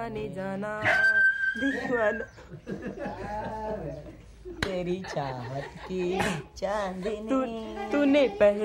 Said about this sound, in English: just decided to kick Tiger, the compound's resident mutt, in the ribs for fun, just to hear him howl.